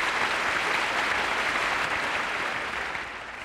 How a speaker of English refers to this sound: I got all that applause for that one.